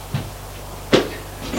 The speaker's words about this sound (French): La porte se referme.